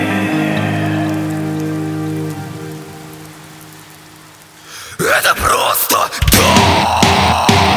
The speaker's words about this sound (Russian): Он снова плачет за моим окном. Это просто дождь.